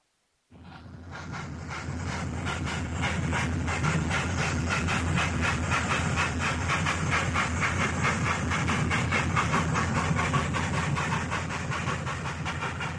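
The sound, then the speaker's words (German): A train slowly pulling out of Stuttgart main station rumbles steadily with a broad hiss and rhythmic clicking of wheels over rail joints, the sound starting abruptly and holding at a constant, fairly loud level. “Langsam fährt der Zug aus dem Hauptbahnhof Stuttgart.”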